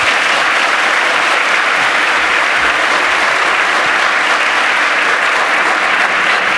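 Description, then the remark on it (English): Steady, loud audience applause welcoming a speaker before a tutorial session on building disassemblers, a dense wash of many hands clapping at once with no pauses and no voices rising above it. “Give FX a huge round of applause for the schooling on disassemblies he's going to give you right now”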